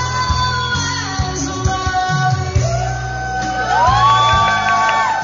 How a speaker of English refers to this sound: drawing applause from surrounding customers.